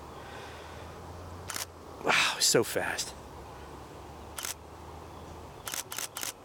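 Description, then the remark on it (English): Sharp mechanical camera shutter clicks at a raised shutter speed while photographing a bee landing on daisies: a single click, another later, then a quick burst of three in rapid succession, with a brief spoken remark in the middle over faint outdoor ambience. “So let me increase my shutter speed and see if I get him in action.”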